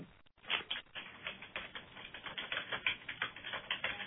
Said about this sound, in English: Well, I know someone is off mute. I can hear typing. Sorry, that's me.